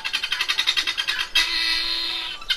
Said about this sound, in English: And speaking of the latter, they said, and it should be remembered how helpful this will be in the worst case scenario of villains coming along, these guinea hens are loud.